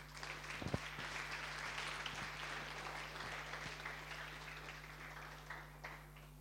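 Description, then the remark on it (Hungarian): Steady audience applause for a prize-winning team at an award ceremony, a dense wash of clapping that holds at a fairly even level for several seconds, with a low electrical hum running underneath. “parancsolj, tapsoljuk meg.”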